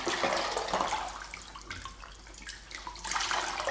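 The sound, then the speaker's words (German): Water splashes and gushes into a bucket as a mop used to clean a dirty stairwell floor is squeezed out, loud at first, easing to dripping trickles, then surging again near the end. No voices. “Wie die Beine von einem Oktopus sind seine Fasern auseinandergestoben, wenn ich ihn in Kübel gequetscht.”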